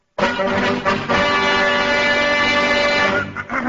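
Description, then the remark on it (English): A large temple bell is smashed hard, and a loud metallic clang blooms into a dense, shimmering ring of overlapping tones. The ring sustains for about three seconds before breaking off, with no voices. “You have just heard the high vibrations when our friend here smashed the temple bell, for which he will be fed to the octopi at Marineland right after the show.”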